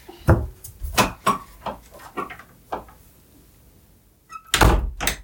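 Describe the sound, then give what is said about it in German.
A door is shut with a series of wooden knocks and thuds, a brief lull, then a firmer double bang as it closes, all moderately loud with no talking. “Wenn du die Tür wieder zumachen könntest, wäre das großartig.”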